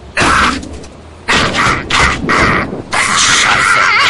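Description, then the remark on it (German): A snack vending machine's mechanism, which took the money without dispensing food, clunks and rattles in several loud, noisy bursts lasting about half a second to over a second each, separated by short pauses, with no talking. “Der blöde Automat hat unser Geld geklaut.”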